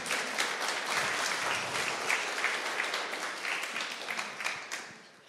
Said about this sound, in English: Můžeme zatleskat prvnímu odvážnímu.